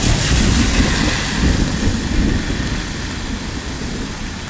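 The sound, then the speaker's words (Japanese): A deep, continuous rumble of thunder rolls on for several seconds, heavy in the low end with a broad hiss above, swelling slightly and then slowly easing off. No one speaks. “こうやって雷が鳴ってることも先方にはわからないんですけど、でも、実際にはそういう時間がこのハガキにはある、メール出すときに雷の音したら面白いな。”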